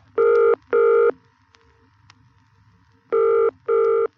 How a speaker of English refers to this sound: After dialing, wait for the equipment to connect you. It may take a few seconds till you hear the ringing tone.